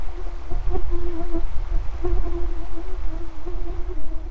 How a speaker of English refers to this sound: As I watch the plane disappear over the horizon, the sound of the plane's engine is slowly replaced by the hum of mosquitoes.